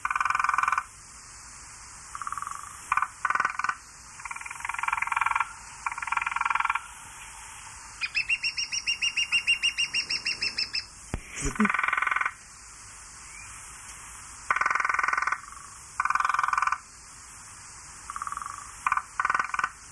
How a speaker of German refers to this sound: Das war also der Grünspecht, jetzt kommt der Kleinspecht.